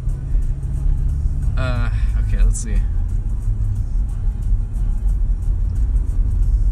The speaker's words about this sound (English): I like how we're in the middle of the intersection right now. Yeah, dude. It's the only way to be. You must exist in the middle of the intersection.